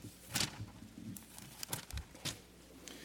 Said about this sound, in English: Turn with me to Luke 9. Come on, let's go on a journey to Luke 9. Let me hear some turning pages.